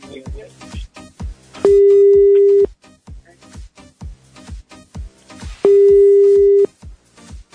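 An outgoing phone call, dialed again to a man, rings unanswered: two steady, one-second ringback tones a few seconds apart, fairly loud, over a quick rhythmic thumping beat in the background.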